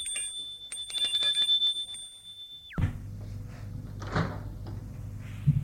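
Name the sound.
doorbell ringing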